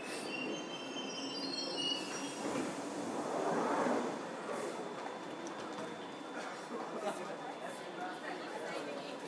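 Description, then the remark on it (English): A train arriving at a station rumbles steadily, high wheel squeals fading during the first couple of seconds, with murmuring voices of a crowd of passengers coming off the train in the background. “Still quite a few people coming off the train here.”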